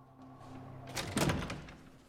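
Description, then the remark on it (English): A nurse unlocks and opens a door: a cluster of metallic clicks and rattles followed by a dull thump as it swings, over a low steady hum, with no talking. “The nurse unlocks the door and the doctor steps inside.”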